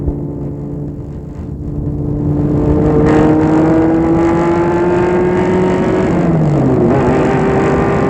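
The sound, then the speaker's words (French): A car engine hums and then revs up loudly, its droning pitch climbing steadily before dipping briefly near the end, continuous with no voices. “Ils y vont en voiture.”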